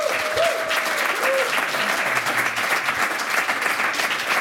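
Loud, steady audience applause fills the whole stretch, a dense wash of many hands clapping with no pauses, and a few faint tonal traces showing briefly near the start.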